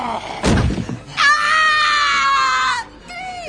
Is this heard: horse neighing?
no